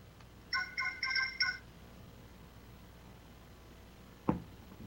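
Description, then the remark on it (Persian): A mobile phone ringtone plays a short burst of bright, repeating electronic tones, clear, then stops; a single soft thump follows a few seconds later in otherwise quiet surroundings. “تلفنم جز مزاحمت چیزی نیست، واقعا اتلاف وقت و مزاحمت.”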